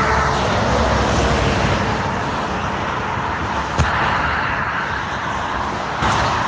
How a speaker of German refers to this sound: Das sind so die Geräusche, die wir den ganzen Tag hören, wenn wir auf dem Seitenstreifen der Autobahn fahren. So hört sich's an. Es ist laut. Und es ist nicht ungefährlich.